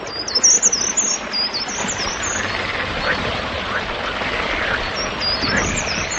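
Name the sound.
birdsong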